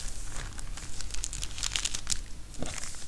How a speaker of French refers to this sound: Donc on découpe le tissu. Hop. Là, il y a plusieurs paires de ciseaux.